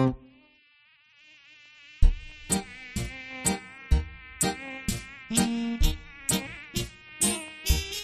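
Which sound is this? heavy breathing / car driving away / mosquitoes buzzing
mosquitoes buzzing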